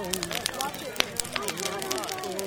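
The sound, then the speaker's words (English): Sharp, irregular pops and snaps of a crackling bonfire, scattered steadily throughout, with a murmur of voices talking underneath. “There were bells, a crackling bonfire”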